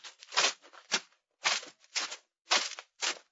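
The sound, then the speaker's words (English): The heavy military jackboots of five soldiers led by a sergeant tramp in a steady marching rhythm to a house's front door, each step a gritty crunch on snow-covered ground, about two steps per second with no voices. “Led by a sergeant, they march to the front door, their jackboots crunching on the snow-covered ground.”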